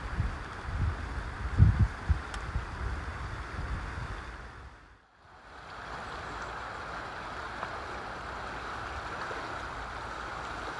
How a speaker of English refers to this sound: We've now made it down to the riverside, the River Aire, which skirts the southern edge of Rodley Nature Reserve. It's flowing quite quickly today. We have had quite a bit of rain recently, so the river is well and truly in full spate.